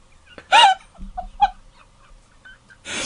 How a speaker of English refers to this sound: Yes, in case you were wondering, yes, that is my ringtone. A little bit of 24 there for Minster. I do have the 24 ringtone.